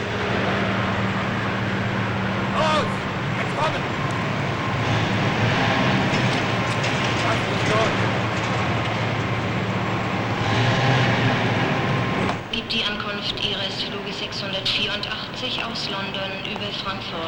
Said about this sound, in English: A tree sways in the breeze by an airport runway, down onto which swoops a Pan Am propeller plane. A man in a mask looks out from a window of the terminal building as the plane taxis to a standstill.